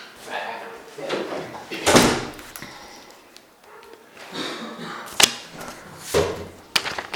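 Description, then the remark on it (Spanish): A door is handled during a meeting: a broad scraping swish followed by a few sharp clicks and knocks, with indistinct voices murmuring. “No, no falta que cierre la puerta.”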